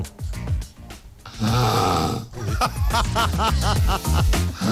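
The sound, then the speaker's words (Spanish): A woman snores loudly and raggedly through the night in a hospital bed, recorded on video, with rough rattling breaths repeating in quick succession, continuous with no talking. “La pobre mujer en el hospital siendo grabada en vídeo, roncando.”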